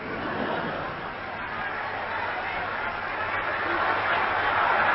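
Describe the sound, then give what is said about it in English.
A large crowd of thousands of people on the pavement roars and cheers in a continuous wash of noise with no clear individual voices, swelling slightly toward the end. “look at all the people on the pavement. Thousands of them. I wonder who they're cheering.”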